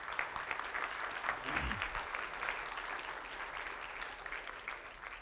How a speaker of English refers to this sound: If I were you, I would give Jesus a clap offering that through your difficulties, your faith will not fail because He Himself guarantees it.